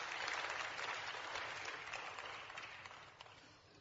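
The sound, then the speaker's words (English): A crowd applauds steadily, dense overlapping claps forming a loud, broad wash of sound that gradually fades toward the end, with no talking over it. “And we ought to applaud that.”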